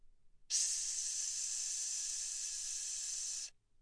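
A steady hiss of gas escaping from a tap, starting abruptly and holding even and bright for about three seconds before cutting off sharply. No voices are present.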